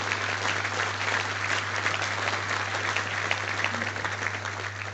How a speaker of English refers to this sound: Don't give him too many applause, please. Go to his head.